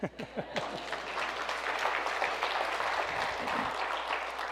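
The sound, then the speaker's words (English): A church audience applauds, dense steady clapping from many hands that starts with a few sharp claps and swells into a sustained, even roar of applause, with faint voices underneath. “Yeah, it's okay to clap.”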